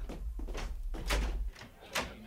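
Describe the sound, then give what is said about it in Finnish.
A door is opened, with a few sharp clunks and rattles of the latch and frame over a steady low rumble, followed by a quieter final knock. “Parasta, kun menen laittaa ove auki.”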